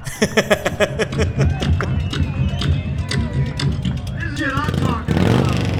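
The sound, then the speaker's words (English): A loud-piped motorcycle with a 74 cubic inch Harley engine in a shovel frame, a straight kick built from scratch by its owner, roars and revs in bursts at a saloon's loud pipes contest, its deep rumble filling the space while a crowd murmurs and voices carry in the background. “This is the winning motorcycle at the Broken Spoke Saloon's Loud Pipes Contest.”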